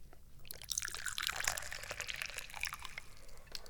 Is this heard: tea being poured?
yes